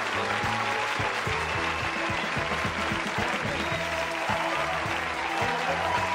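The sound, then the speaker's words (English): Steady, dense applause from a crowd clapping off the Sixers at the end of their season fills the whole clip, a continuous hiss of many hands clapping, with a thumping low beat of music pulsing underneath. “All right, we're going to clap them off because that's it for the season for you, Sixers.”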